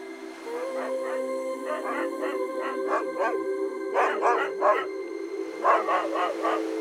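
A dog barks in several quick bursts of yips over a steady, drawn-out howl, the barking swelling louder midway and again near the end, with no one speaking.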